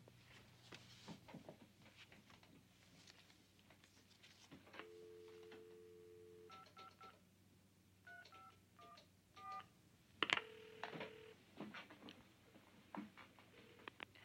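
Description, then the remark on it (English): A man picks up a phone receiver with soft clicks, a steady dial tone hums, then a quick run of touch-tone beeps is punched in, followed by a sharp clunk and more short tones. “He goes to the phone.”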